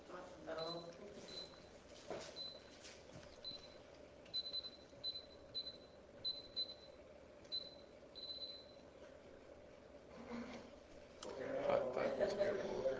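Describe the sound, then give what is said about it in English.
An alarm beeps in high, thin electronic pulses, short bursts repeating in uneven clusters over a low background rumble, fairly faint, before a rougher rustling noise takes over near the end. “Somebody has set the alarm.”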